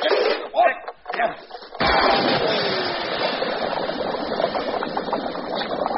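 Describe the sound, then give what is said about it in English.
After a few brief, muffled vocal sounds, a bucket of water is poured out onto a ticking bomb in one sudden, steady gush, a loud sloshing rush that continues for several seconds without letting up. “Quick! Pass me that bucket of water, which happens to be conveniently situated by the door.”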